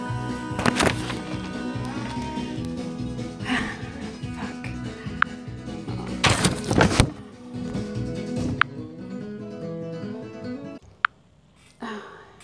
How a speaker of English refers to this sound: The door, wasn't it?